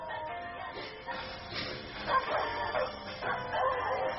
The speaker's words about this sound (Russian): Там лает собака, псина, или как это будет по-украински?